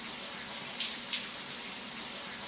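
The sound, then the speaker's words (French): Shower water runs in a steady, unbroken hiss of spray, even in loudness throughout, with no voices and no pauses in the flow. “On se fait un petit revival des morceaux de la semaine, tous ensemble, sous la douche.”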